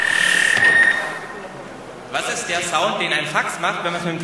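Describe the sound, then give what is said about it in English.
Fax machine data transmission, as heard when calling a fax machine by telephone: a steady high beep, a short lull, then a dense, warbling burst of buzzy, chirping modem noise that continues loudly to the end. “What is the sound that a fax machine does exactly.”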